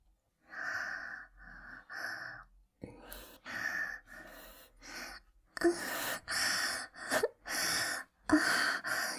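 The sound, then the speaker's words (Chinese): Heavy, rhythmic panting breaths from a woman feigning sex, a steady run of loud gasping inhales and exhales that grows more forceful toward the end, with no words spoken. “你可以听我的喘息声”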